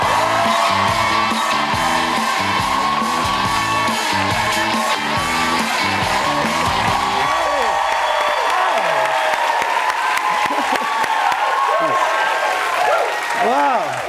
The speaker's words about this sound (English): I don't know why I immediately do prayer hands every time. I just hear a clap.